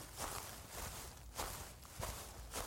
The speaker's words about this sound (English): I was focusing on the footsteps and different materials. The footsteps would sound different, which is something you don't usually notice when you're not thinking about it.